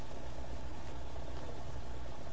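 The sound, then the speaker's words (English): A car engine idles steadily with a low, constant rumble and faint vibration, continuous throughout with no voices. “Here goes the car.”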